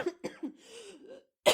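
Several raspy coughs in quick succession, with a short wheezy, throaty stretch between them and a final harsh burst at the end; no talking.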